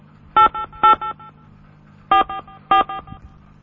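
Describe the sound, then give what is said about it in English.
Telephone keypad tones beep in two quick clusters of short, fairly loud pitched presses with a pause between them as someone enters the zip code of the area they are calling from on an automated tip line. No voices are present. “Please provide the zip code of the area you are calling from now.”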